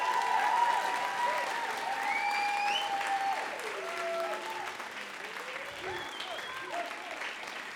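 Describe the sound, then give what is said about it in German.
A church crowd claps steadily and loudly for several seconds to show Jesus their love, a dense wash of applause with scattered cheers and whoops rising above it. “Zeig doch mal Jesus, wie sehr du ihn liebst in diesem Applaus.”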